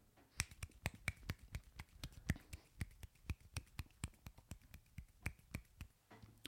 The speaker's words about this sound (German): Ich klatsche es mal mit einer Hand und die Hörer müssen raten, ob links oder rechts.